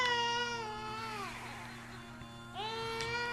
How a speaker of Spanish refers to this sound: Pero como cualquier niño, Perseo lloraba cuando tenía hambre o se sentía incómodo.